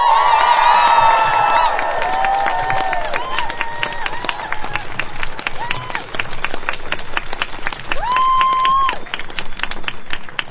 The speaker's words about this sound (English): So can we cheer for the people who put this together?